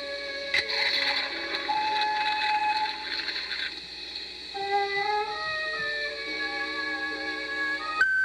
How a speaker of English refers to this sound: If you have any message about seltzer or any other thing, please mention it after you hear seltzer splashing.